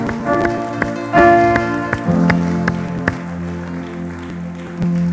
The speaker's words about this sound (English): Now give him a round of applause, NCC.